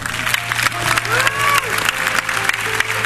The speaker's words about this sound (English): Give them one more big hand clap.